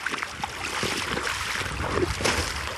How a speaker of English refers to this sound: The Erith River here on the border of your land, is it? Yeah, this is the Erith River. It flows right through it, right all the way along. It rises back there in the Drummond Mountains